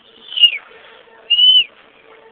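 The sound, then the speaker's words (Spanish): A person whistles two high, eerie notes, each held about a quarter second and separated by a short pause, imitating the whistle of a duende (goblin). The whistles are clear, with no talking. “sino cómo chifla el duende, porque el duende también dicen que tiene ese chiflido. Que hace así.”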